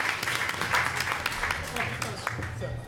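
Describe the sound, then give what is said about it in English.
A crowd applauds with steady, dense clapping for a few seconds, a continuous wash of hand claps with some murmuring voices mixed in. “Give her a big round of applause, please.”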